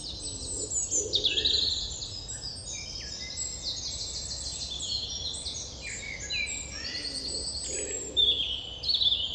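Dense, overlapping birdsong from many birds at once, with constant high chirps, trills and whistles layered over a low steady outdoor rumble, like a busy dawn chorus, continuous.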